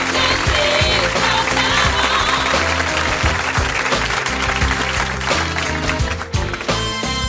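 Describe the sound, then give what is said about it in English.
A crowd at a stage show claps loudly and steadily for several seconds for a male participant, the dense applause washing over a rhythmic music track with a thumping bass line underneath. “Come on, guys, give him a big round of applause.”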